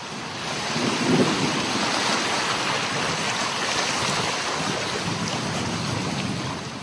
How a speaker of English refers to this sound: A morning thunderstorm on Funafuti Atoll is a mixed blessing. The storm fills the water tanks with needed fresh water